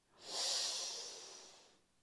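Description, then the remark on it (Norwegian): A single slow, steady exhale of breath, airy and hissy, swelling in over a quarter second and tapering off gradually over nearly two seconds, with no talking, during a guided breathing exercise, after breathing in through the nose and holding the breath. “Og så puster vi ut.”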